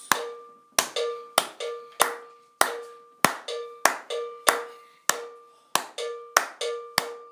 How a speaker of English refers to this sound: So I'm going to come in just before that first one. Go, ta-dum, ta-dum, dum, dum, ta-dum, ta-dum, dum. So my clap is with his second two notes.